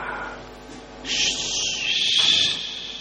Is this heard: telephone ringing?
no